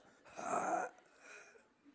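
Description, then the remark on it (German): A forceful, drawn-out exhalation with a breathy, wheezy hiss, strongest at the start and tapering into a softer second push of air, fairly quiet, with no speech. It is part of a breathing exercise, breathing out after a held deep breath. “Und nochmal ausatmen, weiter ausatmen.”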